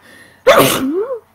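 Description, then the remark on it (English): A single loud sneeze, a sudden sharp burst of breath that trails off into a brief voiced tail, with no talking around it. “Bless me. Bless you.”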